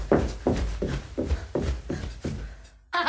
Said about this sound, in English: Do they knock? Is there a knock or no? Is it just footsteps? I think it's just footsteps. She's okay. Running towards the microphone.